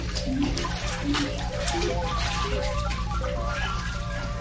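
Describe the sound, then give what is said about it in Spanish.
Steady water sloshing and churning over a few seconds as a box is thrown into a river at night, a continuous splashy wash rather than one sharp impact. “Te arrojaré al río dentro de esta caja.”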